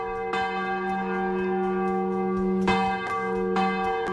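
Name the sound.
church bells ringing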